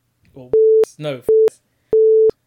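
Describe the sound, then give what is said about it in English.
Three loud censor bleeps covering spoken names, flat steady mid-pitched tones with abrupt starts and stops, each cutting over a stretch of speech while a voice talks in the gaps between them. “Oh, why'd I say names? Oh, I'll have to beat that out.”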